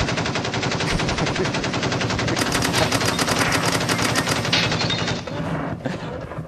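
Sustained rapid-fire machine-gun bursts used as a segment sound effect, loud, forming a dense continuous rattle for about five seconds before tapering off. No one speaks.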